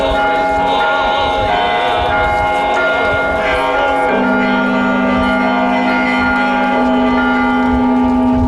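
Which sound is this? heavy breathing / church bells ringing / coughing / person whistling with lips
church bells ringing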